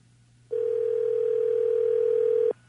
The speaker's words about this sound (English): Let's see if Bud answers the phone. Got a couple minutes here. We'll get a fishing report.